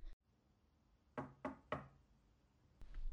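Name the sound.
knocking on a door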